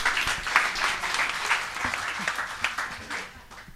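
An audience applauds steadily for a few seconds, a dense wash of many hands clapping at an even, moderate loudness with no one speaking over it.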